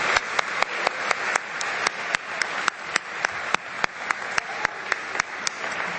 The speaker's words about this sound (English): One more big round of applause for the interrogator, Hugh Hewitt.